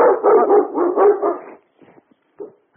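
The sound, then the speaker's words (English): A dog barks loudly at somebody at the front of the street in a rapid run of barks that blur together for about a second and a half, followed by a few faint, short yips and whimpers. “Sorry about that. We had a little doggy problem here.”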